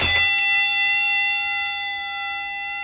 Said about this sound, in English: At the end of the 10 seconds, you will hear a bell.